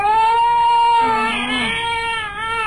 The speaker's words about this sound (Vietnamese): Hai đứa nói chuyện tới đó, bỗng nghe trong căn phố cập rằng hơn, có tiếng con nít nhỏ khóc é lên. Rồi lại tiếng đứa lớn la khóc vang dậy.